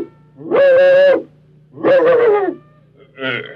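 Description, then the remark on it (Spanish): A dog named Macario barks impatiently on a farm, with three drawn-out, tonal barks in a row. The first two are loud and long and the last is shorter, set against a low steady hum. “Entonces el perro Macario ladró impaciente.”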